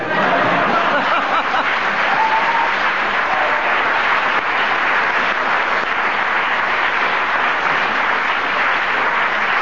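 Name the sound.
studio audience applause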